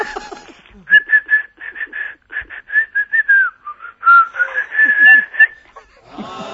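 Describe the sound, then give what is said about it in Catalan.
Someone whistles a tune, a run of clear, steady notes in a lilting rhythm that slides between pitches, with brief speech at the very start and end. “Heu sentit aquesta xiulada?”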